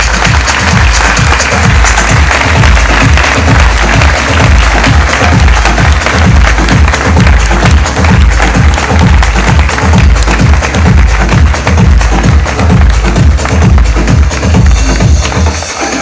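Loud, sustained applause from a large audience fills all sixteen seconds, a dense steady wash of clapping over a regular thumping low beat, with no voices standing out.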